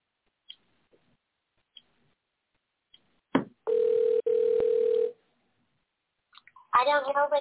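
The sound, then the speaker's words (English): A click, then a steady electronic phone tone sounds through the line in two back-to-back bursts before cutting off, as someone calls a woman on her phone. A voice begins speaking shortly after. “Oh, let me see if I can call her on her phone.”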